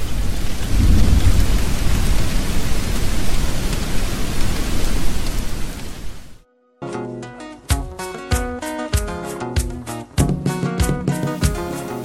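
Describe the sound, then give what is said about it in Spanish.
Heavy, steady rain roars with deep thunder rumbling low beneath it for about six seconds, then cuts out abruptly and gives way to music. “Ven, apúrate, camina rápido y vamos a la choza hasta que calme la lluvia.”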